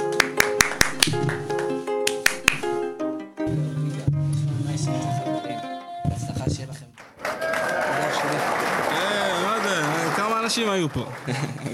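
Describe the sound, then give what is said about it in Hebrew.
A handful of sharp, scattered claps ring out over music at the start, followed by a lively crowd with voices cheering and singing beneath a steady, full-bodied din. “אי אפשר בלי כפיים, אי אפשר לסיים. כמה כפיים.”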